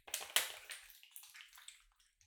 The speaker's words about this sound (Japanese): これを入れると泡がもくもく広がって、あっという間に泡のお風呂になるんです。あ、ファンタジーな魔法のアイテムとかじゃないですよ。市販のやつです。